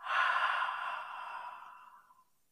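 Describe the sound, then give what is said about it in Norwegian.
A single slow, breathy exhale out through the mouth after breathing in through the nose, during a breathing exercise to help with sleep, a soft airy whoosh that starts strong and gradually fades away over about two seconds, with no talking. “Og så puster vi inn gjennom nesa en gang til. Og ut gjennom munnen.”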